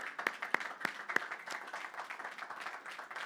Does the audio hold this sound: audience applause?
yes